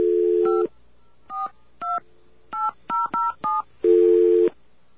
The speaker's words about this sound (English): You know, I really wish somebody would get a decent phone system in here. Okay, we're going to have to keep trying until it understands all of our touch tones.